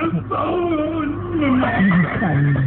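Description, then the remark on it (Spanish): Horses in stables whinny and neigh nervously in agitated, wavering cries and stamp, several overlapping calls, loud, rising and falling continuously for a few seconds. “Los caballos relinchan y patean nerviosos al advertir la presencia de los lobos asesinos”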